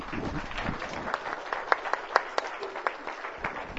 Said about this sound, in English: If you were wanting to, as I was, and I know a few of you were wanting to, if you were wanting to say thank you for our music team by clapping your hands, let's do that.